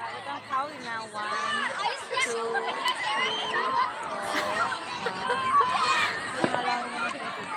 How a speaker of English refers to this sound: I'm sorry. I can't really hear you. It's just... The noise in the crowd is just so much.